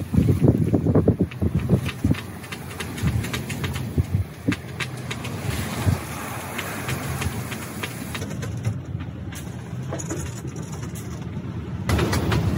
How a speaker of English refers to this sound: No wonder we're in a big storm. It's like Cape Horn out here, man.